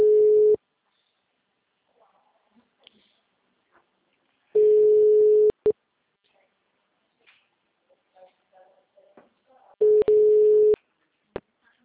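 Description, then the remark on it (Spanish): An outgoing phone call's line tone hums in three loud, steady, low-pitched bursts about four seconds apart, with faint clicks and murmurs in the quiet gaps between them, before the call reaches voicemail. “Mas de qualquer forma eu tô ligando, porque meus números todos foram banidos.”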